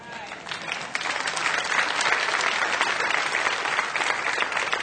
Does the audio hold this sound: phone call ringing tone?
no